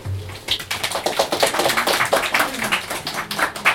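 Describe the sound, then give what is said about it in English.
An audience claps steadily for several seconds, a dense patter of many overlapping hand claps at a fairly even, moderately loud level, with no one speaking over it. “Are you clapping?”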